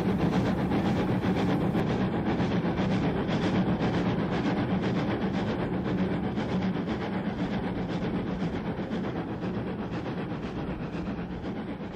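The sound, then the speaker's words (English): A J36 steam locomotive hauling a rail tour labours up a steepening gradient with the regulator wide open, its exhaust beating in a steady, rapid rhythm over a continuous loud roar of working machinery, with no voices. “We leave the rail tour here as the J36 continues towards the top of the gradient.”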